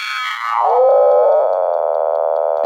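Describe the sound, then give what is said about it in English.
A synthesized creaking tone from a synthesizer sound-design preset called the Creaker glides downward, then settles into a steady, buzzy, strained drone with fine ratcheting texture, loud with no voices. “They've got some great sound design sounds in there.”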